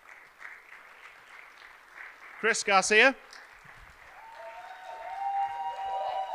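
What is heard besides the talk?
audience applause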